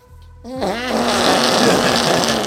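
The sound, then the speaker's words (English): A voice makes a loud, sustained raspberry-style fart noise, buzzy, running for about two seconds after a brief low hum at the start. “Should I do a fart noise?”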